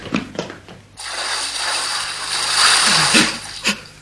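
Boiling water starts after a few short clicks, becoming a steady, loud hissing and bubbling rush that continues to the end, with a couple of brief low pops rising through it.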